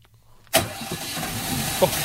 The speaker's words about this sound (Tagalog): Sa wakas, umandar na ang makina nitong kotseng ilang araw ko nang ginagawa.